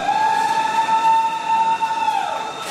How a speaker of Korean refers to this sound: 9.11 테러 17주년을 며칠 앞둔 지난 9월 8일 WTC 코틀랜드 역으로 첫 번째 열차가 들어옵니다. 사람들은 환호와 박수로 재개통을 축하했는데요.